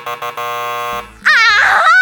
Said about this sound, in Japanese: 今ピンポンって鳴らしかけただろ。ちゃんと聞こえたからな。